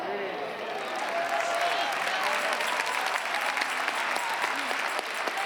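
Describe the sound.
An audience claps steadily throughout, a dense, loud wash of hand claps with scattered voices calling out and cheering beneath it.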